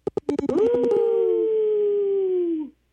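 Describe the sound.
A few quick taps give way to one long, sustained howl from a radio caller imitating a wolf on Native Roots Radio. It rises, holds steady for about two seconds, then dips and cuts off, loud.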